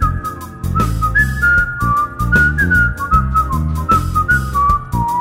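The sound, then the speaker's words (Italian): A man, a rotisserie vendor at a market, whistles a bright, wandering little melody while smiling behind his counter, clear, over a steady, rhythmic instrumental backing that keeps a regular beat throughout. “Ci avviciniamo anche a un rosticcere con grandi spiedi lunghi come spade, rimesta in pentoloni di patatine, poi sorride fischiettando un motivetto dietro il suo bancone.”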